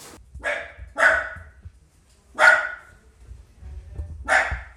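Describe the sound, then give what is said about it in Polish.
A dog barks four times in greeting, in short, separated, loud bursts, with brief pauses between each bark and a low rumble of background noise underneath. “Piesek cię tylko przywita, wiesz?”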